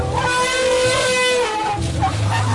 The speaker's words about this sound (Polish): Słonie zaczęły wydawać dziwne dźwięki. Słyszycie?